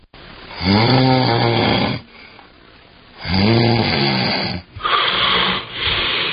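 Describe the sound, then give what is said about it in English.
Loud snoring: two long, rumbling snores separated by brief quiet pauses, followed by rougher, breathier snorting near the end. “Sleep apnea is a condition where breathing is briefly and repeatedly interrupted during sleep.”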